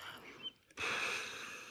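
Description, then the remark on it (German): After a brief hush, a person demonstrating a breathing technique takes a deep breath in, a steady airy rush that swells quickly and holds for about a second without any talking. “Also man atmet erstmal ein damit.”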